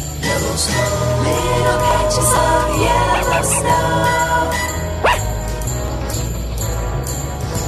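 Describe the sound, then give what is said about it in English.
A man imitates a dog, giving a few short barks and yips over a bright, jingly musical backing with tinkling bells. The barks sit close and fairly loud against the busy accompaniment. “Now, I want to point out that we didn't have a budget for a real dog. That was me.”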